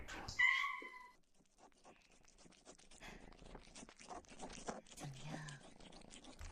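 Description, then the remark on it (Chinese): A kitten gives a short meow, then a steady run of soft, wet licking clicks follows, quick and irregular, with faint rustling underneath and no one talking, as the kitten licks cat treat paste smeared on a person's back. “小猫咪的舌头在你的背上，一点一点的舔舐。”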